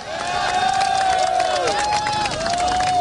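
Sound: crowd applauding and chanting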